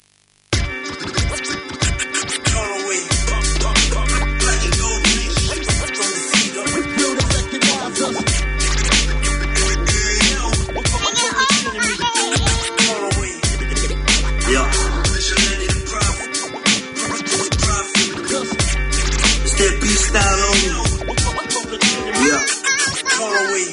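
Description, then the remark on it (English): A loud hip-hop instrumental intro starts after a brief silence, with turntable scratching over a punchy beat and heavy bass notes that pulse in repeating blocks. “But I will go, in the meantime, I will go and play one of his tracks here.”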